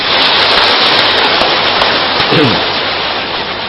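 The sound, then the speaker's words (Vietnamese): An audience at Hoằng Pháp Temple claps steadily, a dense, even wash of many hands that holds at a loud level for several seconds with hardly any change, a faint voice briefly surfacing partway through. “chúng tôi về đến chùa Hoằng Pháp được thượng tọa viện chủ có thỉnh cầu, chúng tôi khả hứa dạy thời giảng này có ra là do nhờ công đức của viện chủ trụ trì đây, quý vị xin thưởng cho anh tràng pháo tay.”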